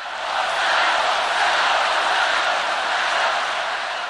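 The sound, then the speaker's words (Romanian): A massive stadium crowd shouts "Santo, Santo" in unison as the Pope mentions John Paul II, a dense, loud wall of voices that swells slightly and holds steady for several seconds without any single voice standing out. “Apoi, când a menționat numele iubitului său predecesor, Ioan Paul al II-lea, întregul stadion a izbucnit într-un impresionant strigăt Santo, Santo, Sfânt, Sfânt.”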